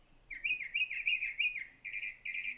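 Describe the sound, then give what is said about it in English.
A mimicking songbird whistles a run of five quick, looping notes that rise and dip in pitch, then two steadier held whistles, clear and alone with no talking. “I love this one because he's just got so many different songs, and there's this really kind of lonely, cool quality about his call that it lulls me to sleep.”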